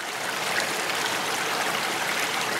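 Steady rushing of very cold river water flowing under ice, a continuous babbling wash with no pauses and no voices.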